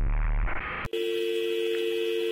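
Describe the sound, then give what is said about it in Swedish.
During a call from an unknown number, a burst of harsh, dense digital noise on the phone line cuts off abruptly, followed by a steady electronic disconnection tone that holds to the end, loud. “En lång tystnad, sedan högt digitalt brus och sedan frånkoppling.”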